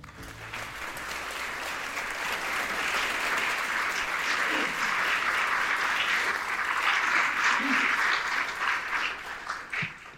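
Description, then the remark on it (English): Sustained applause from an audience at a library event, greeting the host; a dense steady patter of clapping that swells slightly and holds for about ten seconds before tapering at the end, with no voices over it. “The journalist in me hates to have applause for me.”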